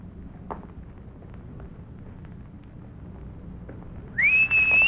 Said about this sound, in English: When I'm close enough, you whistle loud enough to make the feller turn over this way.